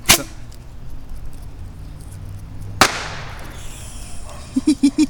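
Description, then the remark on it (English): A neighbor's dog barks, four quick barks close together near the end, following two sharp, loud cracks over quiet outdoor ambience. “Hey, my neighbor's dog is starting to bark.”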